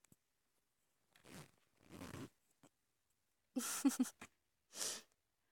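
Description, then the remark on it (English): Hands fumble at a belt and work at a trouser zipper to undo them: several short rasping pulls and scrapes with a small click, the sounds growing louder toward the end, with no talking. “Or see and feel my hands fumbling at your belt and working at your zipper?”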